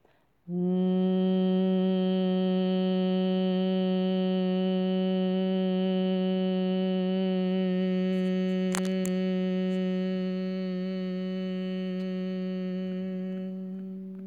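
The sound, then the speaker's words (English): One long, steady hum held on a single low pitch for about fourteen seconds, made while exhaling after inhaling through the nose, with the ears closed by the thumbs, fairly loud, tapering slightly at the end as the breath runs out. No talking. “Inhale through your nose and exhale, begin to create that humming sound with your breath.”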